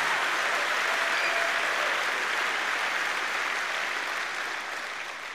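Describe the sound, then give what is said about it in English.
A crowd claps steadily in a dense, continuous wash of applause with a roar of voices mixed in, holding strong for several seconds before tapering slightly at the end. “Clap your hands and shout about it just a minute.”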